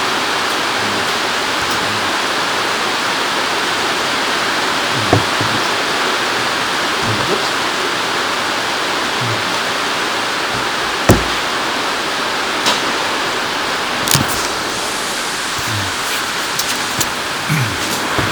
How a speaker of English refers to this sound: Oh, no. rain as well.